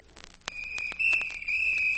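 A shrill, high-pitched whistle, the mail girl's whistle, sounds as one long steady tone, starting suddenly and holding to the end, growing louder midway, with scattered clicks and knocks underneath and dogs and wolves howling.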